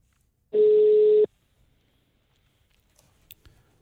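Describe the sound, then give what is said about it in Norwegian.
A telephone call ringing out: a single loud, steady mid-pitched tone lasting under a second, followed by near silence with a few faint clicks. No one speaks. “Ok, men det jeg tenkte at vi tar og ringer”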